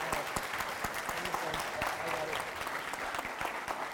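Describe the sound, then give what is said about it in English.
A room full of people applauds steadily for a girl right after a prayer. Many overlapping hand claps form a dense, sustained patter, with a few sharper individual claps standing out. Moderately loud. “She gets two claps.”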